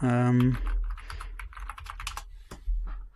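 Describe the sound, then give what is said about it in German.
Quick, uneven keystrokes clatter on a computer keyboard, following a brief voiced sound at the start, with a low background rumble underneath. “wird dich für deine Tastaturanschläge übrigens lieben.”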